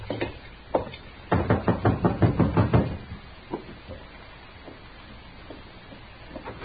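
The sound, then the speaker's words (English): A rapid series of about ten loud, sharp knocks on a wooden door, followed by a few fainter scattered taps and quiet background noise. “So we dismounted and walked up to the door.”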